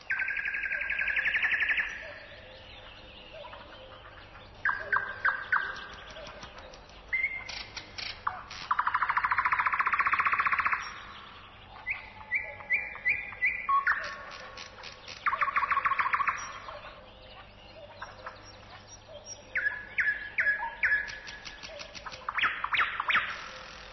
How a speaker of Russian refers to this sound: А теперь послушайте соловья.